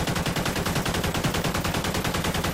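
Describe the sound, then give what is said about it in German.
A Czech-made SA 805 assault rifle with a 277 mm barrel and curved magazine, rated at 750 rounds per minute, fires a long, rapid automatic burst, each shot cracking loudly in a fast, steady rhythm that continues without a break. “das hier ist eine SA 805, ein aus Tschechien stammendes Sturmgewehr.”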